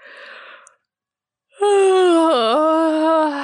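A woman in bed gives a long, drawn-out yawn: a breathy intake, a short pause, then a loud voiced groan lasting about two seconds that dips in pitch midway before trailing off.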